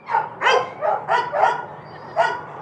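Several dogs in gated outdoor kennels with concrete floors at an adoption shelter bark in a rapid, overlapping chorus, about half a dozen loud, sharp barks in under three seconds, led by Bellamy, a 2-year-old brindle mix on top of his doghouse, with a faint steady hum underneath and no talking.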